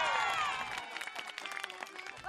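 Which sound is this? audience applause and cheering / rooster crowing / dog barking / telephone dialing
audience applause and cheering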